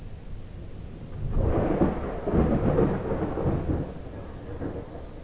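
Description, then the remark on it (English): A deep, rolling rumble of thunder swells after a quiet start, grumbles for several seconds, then slowly fades back into a soft background hiss. “Calling that thunder is a handle.”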